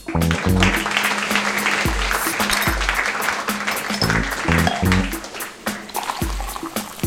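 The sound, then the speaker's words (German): Sustained crowd applause, a dense, even clatter of clapping, runs the whole time over a loud rhythmic musical backing with thumping bass notes. No one speaks. “Und jetzt euer Applaus und eure Bühne.”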